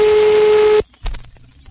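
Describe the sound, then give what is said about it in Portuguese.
A steady, loud telephone line tone hums for under a second, then cuts off abruptly, followed by a soft thump and faint handling noise. “Tem um barulho. É um telefone, alô?”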